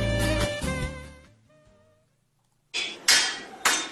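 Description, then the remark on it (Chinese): A loud metallic clang rings out and slowly fades, then after a short silence three sharp hammer blows strike iron in a quick, uneven rhythm, each with a bright, ringing edge, as a Zhangqiu iron wok is forged by hand. “那在《舌尖三》当中呢，就介绍了一种叫做章丘铁锅，一个铁锅是完全手工打造，12道工序，7道冷锻，5道热锻，再过18遍火候，1000度的高温锤炼啊，真的是经受了36000次的锻打之后，才是锅如明镜啊。”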